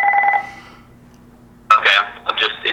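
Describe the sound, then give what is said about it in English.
A single electronic telephone ring, a bright, buzzy tone that cuts off and fades quickly, followed by a pause and then a voice talking. “It's just a phone ring. It'll go away.”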